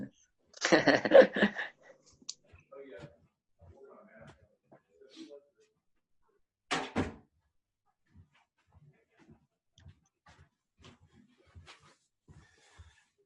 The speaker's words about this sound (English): let me shut the door behind me.